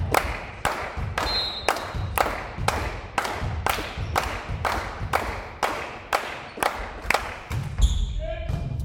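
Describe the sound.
A crowd keeps up rhythmic cheering: sharp, loud claps or thumps land steadily about twice a second, with a low murmur of voices beneath the beat.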